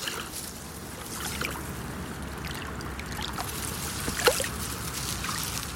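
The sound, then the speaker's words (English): A big ship judders past on the Danube at river kilometer 2135, by the Nibelungenbrücke, its deep, steady engine rumble continuous at moderate volume beneath splashing, trickling water, with one brief louder splash near the end. “Again and again, you hear the judder of big ships passing by, and in summer, motorboats making annoying sounds in the water.”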